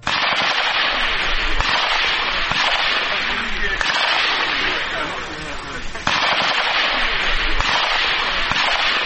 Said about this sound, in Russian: Стрельбой из автоматического оружия, занятиями по минной безопасности, медицинской подготовке, демонстрацией навыков по охране блокпостов и отражению нападения диверсантов, донецкие резервисты отметили День бойца территориальной обороны.